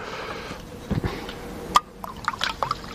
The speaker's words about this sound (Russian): Сейчас я выпью глоточек воды. Только глоточек.